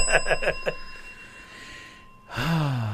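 signal or alarm, bell ringing

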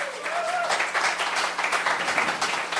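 crowd, audience applause and clapping

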